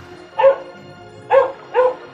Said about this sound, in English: barked when the bird said this.